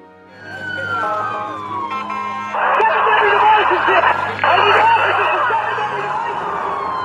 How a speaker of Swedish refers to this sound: Snart ekar sirener från ambulanser och polisbilar mellan tegelbyggnaderna.